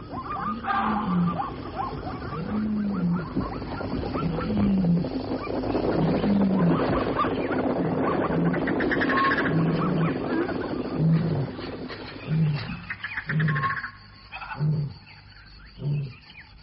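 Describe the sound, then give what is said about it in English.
A vervet monkey gives a steady run of sharp alarm barks, roughly one per second, repeating a dozen or more times against a noisy outdoor background. “The monkey. What does he want? That's the vervet. He announces the arrival of the king.”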